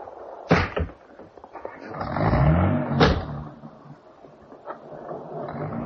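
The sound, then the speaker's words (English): A car door slams shut with a sharp thud, followed by a second clunk, then an engine starts up and revs as the vehicle pulls away and drives off. “Get back in the car, darling.”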